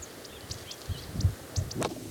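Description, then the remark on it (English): A bridled titmouse calls in a quick series of short, high, thin chirps, roughly four per second, over soft low thumps and rustling. No one speaks. “There's a bridal titmouse and some other birds.”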